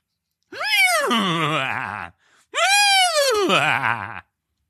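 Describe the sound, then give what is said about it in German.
A human voice imitates a laughing horse with two loud whinnying cries, each rising sharply then wavering and quavering downward, separated by a brief pause. “Mach mal ein lachendes Pferd.”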